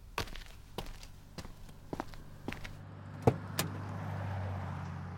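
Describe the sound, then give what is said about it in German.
A plastic canister is set back into its row inside a car: a string of dull knocks and thumps at uneven intervals, one heavier thud near the end, over a low steady interior hum. “Achtung, ich stelle jetzt den Kanister wieder zu der Reihen.”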